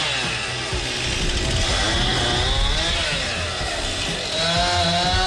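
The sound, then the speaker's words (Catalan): A chainsaw runs steadily at high revs as work crews remove the many trees that fell in a windstorm, its buzzing whine rising and dipping in pitch as it bites through wood, loud and continuous with no voices. “De fet, avui seguiran les feines com aquesta que estem sentint, de retirada dels moltíssims arbres que hi van caure.”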